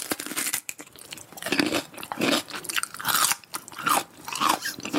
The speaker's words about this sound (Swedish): Det är nära, det är en som äter gurka.